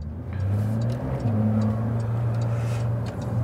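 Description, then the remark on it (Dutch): A Porsche 911 Targa 4S sports car engine hums during a test drive with a steady, low, throaty drone, dipping briefly before settling into a slightly higher, even tone, with no voices over it. “Wouter die test de Porsche 911 Targa 4S.”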